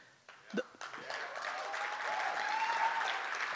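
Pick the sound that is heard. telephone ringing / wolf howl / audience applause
audience applause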